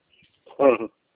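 A pet parrot gives a short, harsh squawk, loud and nasal, preceded by a couple of faint high chirps, with no talking around it.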